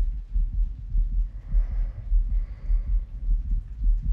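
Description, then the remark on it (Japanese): A rapid, muffled human heartbeat thumps steadily, low and soft, with faint breathy hiss drifting in around the middle. “心音を聞かれるの、なんだか恥ずかしいですね。”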